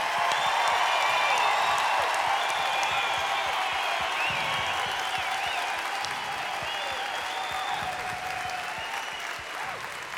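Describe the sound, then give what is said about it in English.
A large audience applauds the crew loudly and steadily for about ten seconds, with scattered cheers and whistles rising above the dense clapping before it gradually eases off. “big round of applause to our fantastic crew.”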